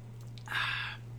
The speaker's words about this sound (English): I'm going to have a sip from my tiki cup.